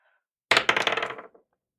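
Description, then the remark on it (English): Dice clatter across a hard tabletop, a sudden burst of rapid rattling clicks that bounce and settle within about a second. Fairly loud, with no voices. “I guess I will get my dice out.”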